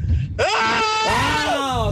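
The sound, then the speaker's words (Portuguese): A single loud, drawn-out frustrated scream from one person in a car, frustrated by traffic, its pitch wavering and swooping for over a second after a brief low rumble. “Não, o ai o grito no carro tem que ser assim, ó.”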